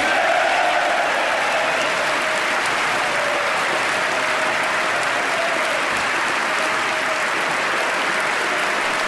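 Sustained applause from a large crowd for President Bush during his evening speech, the first round of applause of the speech, fills the whole stretch: a dense steady roar of clapping at constant loudness, with a faint murmur of voices underneath and no speech.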